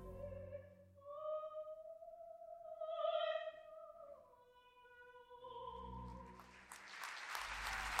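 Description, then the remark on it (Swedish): Sustained orchestral and sung tones swell and fade at the end of a performance of the opera Don Carlos, then a loud wave of audience applause and cheering breaks out over the final notes, dense and building toward the end. “Publiken tjuter.”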